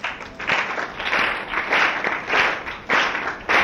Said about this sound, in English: And Lord Chaitanya Mahaprabhu taught them, this is how. Clap your hands.